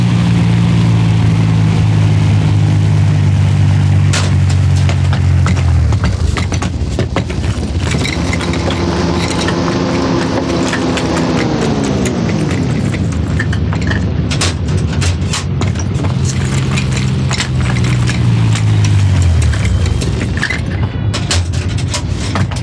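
Loud rumble of heavy military truck engines, their low drone rising and falling in pitch as the vehicles slow and come to a stop, with no voices, before dozens of uniformed, armed agents climb down.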